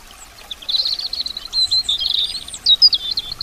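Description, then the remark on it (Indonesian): Birds chirp in a busy, continuous chatter of high, quick tweets, moderately loud, with no voices. A faint low rumble sits beneath. “Mansurnya air zam-zam ternyata menarik burung-burung berterbangan mengelilingi daerah itu.”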